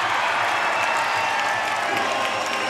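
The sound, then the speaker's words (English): A large ice hockey arena crowd applauds and cheers steadily as the Glasgow Clan win 5-3, a dense wash of clapping and shouting at a loud, even level throughout. “The team come off the bench to applaud Joe Rumpel for his heroics on those last couple of minutes, and rightly so.”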